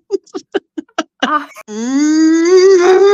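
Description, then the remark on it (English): A person imitates a steer: a string of quick, breathy grunts followed by a long, loud, drawn-out moo that slowly rises in pitch. “That's what our steer sounds like, but it doesn't sound like a regular moo.”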